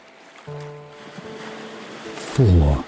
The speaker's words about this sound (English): four, allowing the sound of the waves to calm your mind.